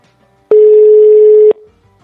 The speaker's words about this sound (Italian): E parliamo un po' con lui, vediamo se squilla. Attendiamo che squilla. Eccolo che squilla.